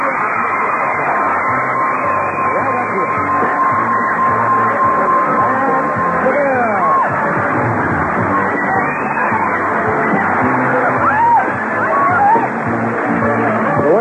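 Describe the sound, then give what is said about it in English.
A large studio audience claps and cheers continuously at a steady, loud level as a contestant who has won a chair leads the applause, with scattered whoops and high yells rising above the dense roar for the whole stretch. “up here and leads the applause.”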